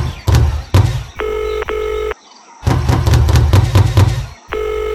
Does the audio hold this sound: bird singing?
no